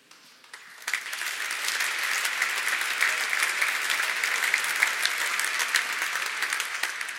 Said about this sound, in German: Sie haben mir den Applaus vorweggenommen, aber können sicherlich gleich noch einen zweiten rausholen